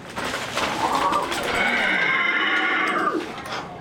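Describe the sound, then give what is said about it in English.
A loud whinny and neigh from Joey, the life-sized puppet horse made by Handspring Puppet Company of South Africa and star of War Horse, in the Walton Arts Center lobby: one long quavering call that rises, holds and then trails off over a few seconds, heard alone without any talking. “That's Joey, a horse, and the star of War Horse, a Tony Award-winning play based on a children's novel.”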